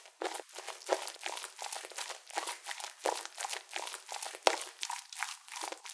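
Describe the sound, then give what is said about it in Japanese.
Scratchy, rustling friction as a woman's chest rubs repeatedly against a binaural microphone's ear, in quick irregular strokes with a bright hiss, steady and fairly loud throughout, with no voices. “私の胸とあなた様のお耳が擦れるいやらしい音、すぐ近くで聞こえますでしょう。”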